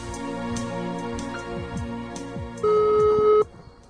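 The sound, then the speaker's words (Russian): A single long, steady telephone ringback tone of an on-air phone call to a seventh-grader in Naberezhnye Chelny, Russia, sounds loudly for nearly a second, rising out of a soft musical background and then cutting off abruptly, with no one speaking. “Вот как это случилось, наша беседа по телефону.”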